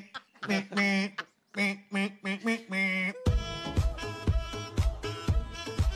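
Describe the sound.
A run of strained, nasal, wobbly quacks like a sick duck, about ten short honks, before a thumping musical beat with a droning melody kicks in.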